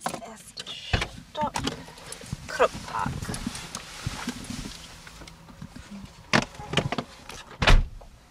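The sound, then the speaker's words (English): Clunks and clicks from a small, fuel-efficient two-seater car in Essen, a window motor whirring and a door thudding, with several sharp knocks scattered through, the loudest near the end. “The tour is done in her car, a fuel-efficient two-seater.”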